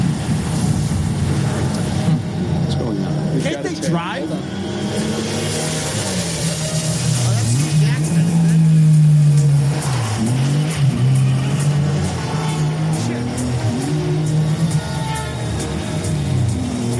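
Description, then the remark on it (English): A TVR British sports car engine revs loudly, its deep growl rising and falling through several throttle blips over steady rumbling, with no voices. “It was like a Russian business owner, I think, who made these like British sports cars, TVR.”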